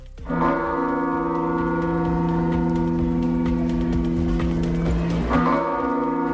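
The bells of Santiago Cathedral toll in mourning for the death of Pope Francis, a deep, sustained ringing hum, with a fresh strike sounding near the start and again toward the end, heard alone with no voices.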